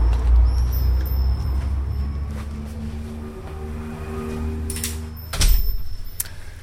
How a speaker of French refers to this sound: Allez, on pousse la porte et on rentre dans la boutique.